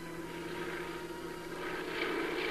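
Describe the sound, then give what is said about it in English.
A Forestry Department propeller plane drones steadily overhead as it flies over devastated mountains and hillsides scattering ryegrass seed. Its low, even engine hum grows slightly louder and fuller toward the end, with no voices present. “Day after day, Forestry Department planes flew over the 26,000 acres of devastated mountains and hillsides, scattering a 500,000 pounds of ryegrass seed.”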